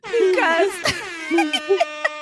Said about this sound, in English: Okay, Hip Hop Air Horns